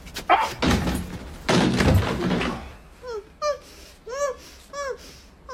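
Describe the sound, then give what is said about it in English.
A stuck but unlocked door is shoved and rattled with a couple of heavy, scraping thumps, then creaks open in a series of about five rising, squealing hinge squeaks, fairly loud, with no talking. “Door over there. I hope to God it's not locked. No! Oh. Just stuck.”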